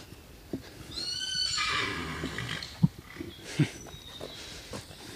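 A horse whinnies clearly, a rising and falling neigh lasting about a second, followed by a couple of soft snorts or thuds in an otherwise quiet outdoor setting.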